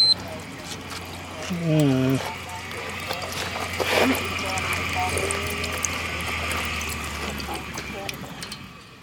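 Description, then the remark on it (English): Hot tap water runs in a steady, even hiss for the whole stretch, with a low hum beneath it and a brief voice-like sound early on. “Is the water working? Oh, yeah. Whoa. Yeah, but it's hot as all get out.”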